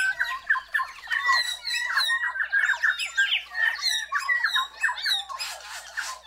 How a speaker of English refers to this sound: It all builds to a brilliant, ringing dawn chorus.